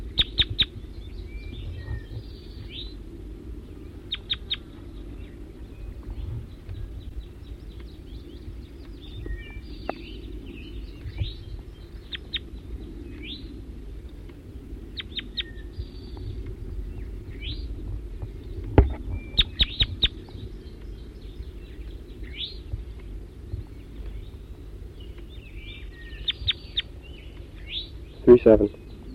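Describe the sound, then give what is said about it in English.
A wild bird calls repeatedly in short, sharp, high-pitched chirps, sometimes in quick bursts, over a steady low rumble of background noise, with a louder cluster of calls near the end. “Back to the wild bird.”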